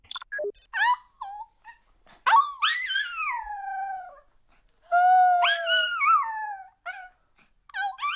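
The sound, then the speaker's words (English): A small toy dog named Puto Palooza, a pet in Miami, sings in a string of high, wavering whines and yips, with long sliding howl-like notes rising and falling in pitch, broken by short squeaky bursts and brief pauses. “this is my toy Puto Palooza, which means fuzzball in Spanish, singing.”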